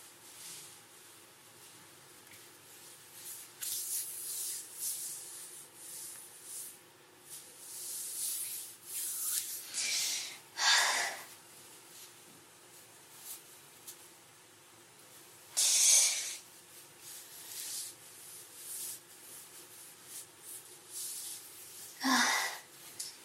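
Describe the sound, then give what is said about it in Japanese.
Soft fabric rustling and rubbing as clothes are taken off in a shower room at night, with several louder brushing swishes and scrapes scattered among quieter shuffling, and no voices. “それじゃあ、服を脱いでいきます。”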